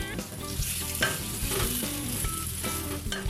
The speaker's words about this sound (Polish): W międzyczasie możemy przemieszać naszą marchewkę, która piecze się w piekarniku.